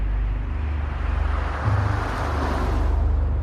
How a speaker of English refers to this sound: She looks up, watching a car drive by.